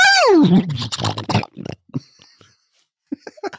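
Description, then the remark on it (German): A person imitates a horse, starting with a high whinny that slides downward, then a rough, breathy sputter. A few short, faint vocal sounds follow after a brief pause. “Und jetzt mache ich auch ein Pferd.”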